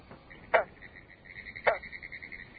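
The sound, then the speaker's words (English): Two single, twangy plunking territorial calls of a green frog, recorded in a ditch near Orange Springs, Florida, about a second apart, set against a steady, high-pitched background chorus of insects or frogs. “In eastern North America, the single notes of the territoriality call of individual green frogs can be heard throughout the summer.”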